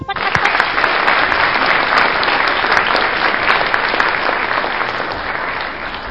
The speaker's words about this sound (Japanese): そして、優勝おめでとうございます。ムチムチトリオチームにもう一度大きな拍手をお願いいたします。